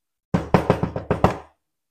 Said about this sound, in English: You heard the door knocking.